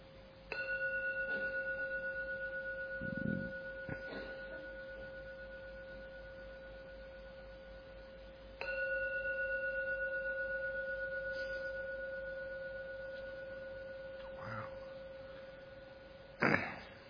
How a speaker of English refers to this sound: Please listen to the sound of the gong and don't open your eyes until the 3rd sound begins to fade away. Just enjoy even the last moments of the meditation by just allowing the 3 rings of the gong to gently take you out back into the world.